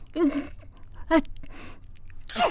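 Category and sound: human body sound, sneeze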